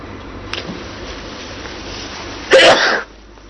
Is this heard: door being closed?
no